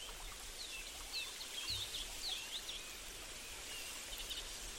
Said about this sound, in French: Cet arbre est le repère de nombreux oiseaux qui piaillent joyeusement dans ses branches, se reposant sur ses dernières, y construisant des nids, çà et là.